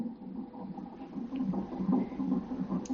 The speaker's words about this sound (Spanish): ¿Escucháis el latido? Es el de mi futuro hijo. Un colchonero nuevo que hoy verá la luz.